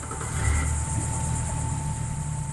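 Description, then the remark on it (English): A pontoon boat motor idles steadily as the boat is steered into a network of man-made canal waterways, a low, even rumble with a faint whine above it, holding constant throughout with no voices. “We step onto a pontoon boat, and Fergus steers us into a network of waterways”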